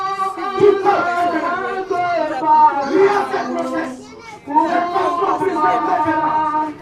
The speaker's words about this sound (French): Dans une petite rue en terre, un peu plus loin, à Hueto, des cris proviennent d'une église évangélique dénommée « Chapelle de la foi agissante » pendant une cérémonie de possession.